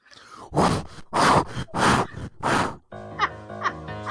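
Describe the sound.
A voice imitates a towel scrubbing a mat underneath a spill to get the moisture out of it, with four loud, rhythmic, breathy rasps in a steady back-and-forth pattern, followed by someone beginning to speak.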